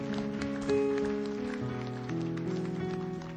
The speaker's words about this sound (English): You appreciate him? Can you give him a great clap offering?